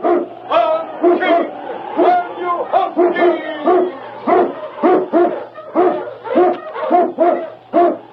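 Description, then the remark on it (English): A pack of sled huskies, with the lead dog King running ahead of the sled and cutting tracks in the snow, bark and howl in steady, rapid bursts, loud, roughly a dozen yelping calls overlapping with drawn-out howls, with no one talking. “The vicious dog King ran ahead of the sled, cutting tracks in the snow.”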